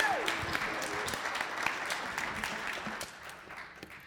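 A round of applause from a group, a dense, steady patter of many hands clapping that tapers slightly toward the end, with a brief falling tone at the start.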